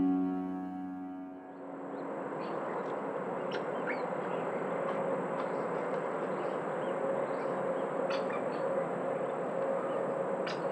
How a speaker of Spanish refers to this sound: Garrapatero pijuy, o ticús, de nombre científico Crotophagus ulcirostris, del orden Cuculiformes y de la familia Crotophagidae. El garrapatero es un ave de 32 centímetros de longitud, con el plumaje negro.